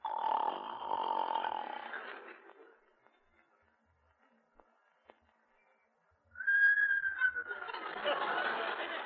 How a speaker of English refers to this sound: It takes a snore a long time to go through his nose.